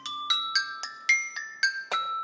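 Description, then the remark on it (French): Metal rods on the portable version of a homemade instrument are struck eight times in a steady rhythm, each strike a bright, ringing tone with shimmering overtones that sustain and overlap, no voices present. “Je vais avoir trois sons différents sur cet instrument. Je vais avoir les tiges.”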